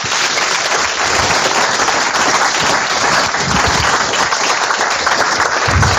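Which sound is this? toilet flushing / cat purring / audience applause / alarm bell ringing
audience applause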